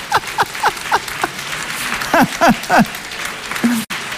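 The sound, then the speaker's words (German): An audience claps steadily for the person operating the slide clicker, a dense wash of applause filling the whole stretch, with a few short voiced whoops and cheers rising over it before it breaks off abruptly. “Merkst du, wir geben dem Klicker mal einen Applaus.”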